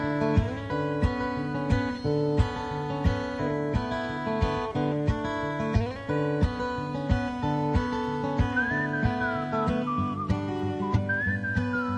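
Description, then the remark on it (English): A clear whistled melody glides in over a full band performance partway through, bright and wavering, carrying the tune above steady drums and guitars in the live version of a song. “Couldn't like cut the song and leave the whistling out.”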